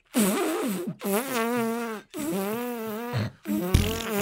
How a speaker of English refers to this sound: Oh, I've just farted as well. I'm coming back into your office to fart.